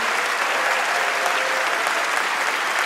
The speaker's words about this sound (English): And can we have one more round of applause for all our guests tonight?